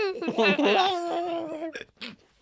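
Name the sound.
baby babbling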